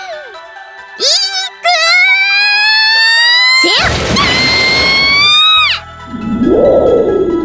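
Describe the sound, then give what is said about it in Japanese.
High, wavering screams are cut by a sudden, loud crackling thunderclap from a lightning strike. The burst lasts about two seconds, followed by a brief pause and a lower, softer rumble. “だからっていきなり雷落とすことはないでしょ。”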